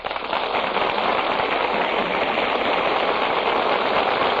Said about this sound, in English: That applause you hear, ladies and gentlemen, tells you that our stars have just come out before the footlights and taken their places at the microphones.